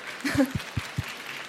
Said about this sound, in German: Da sehen wir jetzt also hier oben. Das verdient einen Applaus für die App.